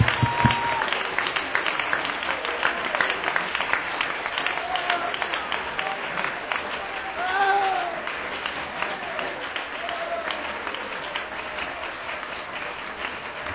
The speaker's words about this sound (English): Let's keep a Holy Ghost revival moving here. Would you clap your hands for that today?